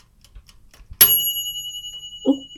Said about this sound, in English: I think the timer on your cooker went off.